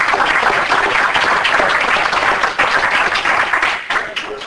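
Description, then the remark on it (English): A crowd at a council meeting breaks into sustained applause for the people who did the room's renovation work, a dense, steady patter of many hands clapping that holds loud for several seconds before thinning out slightly at the end. “And it was done on budget and on time, and a round of applause for you guys for all your time.”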